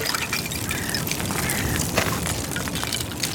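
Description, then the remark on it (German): Small floating ice shards tinkle and clink against each other in lake water stirred by small waves from a swimmer's strokes near the shore, a dense, steady scatter of bright tiny clicks, with no voices. “Die kleinen Wellen, die meine Schwimmzüge machen, bringen das Eis zum Klingen.”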